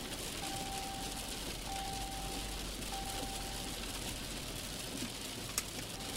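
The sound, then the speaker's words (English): Steady, dense rain pelts a car windshield as the car drives down a steep, winding stretch of road, a constant hiss and patter throughout, with a faint thin tone drifting in and out underneath. “As I drive down an especially steep, winding stretch of road, rain pelting the windshield”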